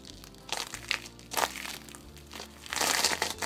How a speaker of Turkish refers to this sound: Kıyıda ne yapacağını düşünen Pongu'nun altındaki buz parçası bir anda kırılıverdi.